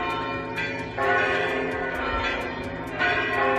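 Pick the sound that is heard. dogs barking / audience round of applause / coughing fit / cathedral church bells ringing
cathedral church bells ringing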